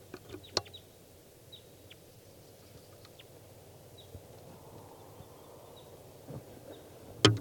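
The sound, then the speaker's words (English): A lone wild bird perched at the top of a tall spruce gives several short, high chirps spaced a second or two apart, faint over a steady low rumble, with a couple of sharp clicks at the start and end. “Here's a wild bird.”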